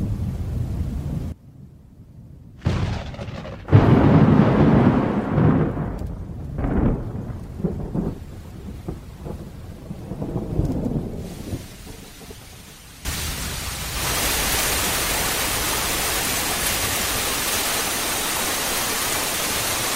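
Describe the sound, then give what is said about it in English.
A summer monsoon thunderstorm: deep rolling thunder rumbles and booms through a stormy stretch, then gives way to a steady, dense wash of heavy rain that continues loudly to the end. “After a rainstorm, the saguaro's long, shallow root system sucks up the water, and the pleats on its trunk enable it to expand rapidly.”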